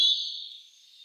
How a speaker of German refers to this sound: Und wenn ihr den Gesang nochmal im Detail hören möchtet und auch nochmal ein paar schöne Fotos sehen möchtet, dann folgt uns bei Instagram, NABU Bundesverband. Da werden wir den Bird of the Day, also das Rotkehlchen, auch nochmal vorstellen.